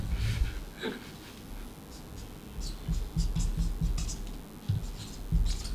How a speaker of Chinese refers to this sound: 喂，我估到喎，突然间我谂到做咩喎？ 你净系听啲笔画听到，你净听笔画都估到系乜嘢？